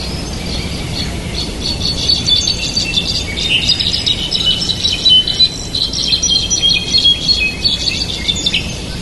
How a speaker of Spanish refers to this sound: Enseguida vamos a escuchar un jilguero.